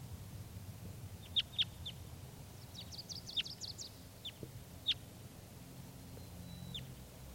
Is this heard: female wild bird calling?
yes